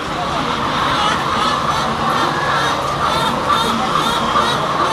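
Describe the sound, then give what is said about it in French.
A dense, continuous chorus of hens clucking and squawking inside an aviary henhouse with feeders, drinkers and nests, many birds calling over one another at a steady moderate loudness with a constant background hum. “Les poules mangent là, dans cette mangeoire. Elles boivent aux pipettes là. Et elles vont pondre dans les nids.”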